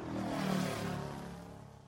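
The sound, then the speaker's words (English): An airplane drones steadily overhead, a continuous engine hum with a low tonal whine and broad rushing noise, loud and unbroken for a couple of seconds with no voices. “This is a plane.”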